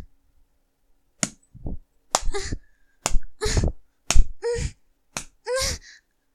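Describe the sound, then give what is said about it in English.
Five sharp, loud hand slaps on skin land about a second apart, each followed by a short breathy gasp or whimper, with silence between. “Each slap, each sting makes my aching cunt pound.”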